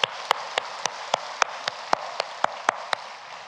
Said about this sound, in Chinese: 冇错，我哋俾掌声，多谢我哋敬拜队。